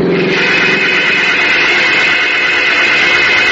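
A car engine roars steadily at high revs, a loud, continuous mechanical drone with a bright whining edge that holds constant throughout, with no voices.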